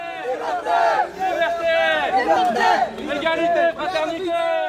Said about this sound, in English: That's what we hear now. Most of the people surrounded are refugees, but they are helped with activists who are yelling at the police.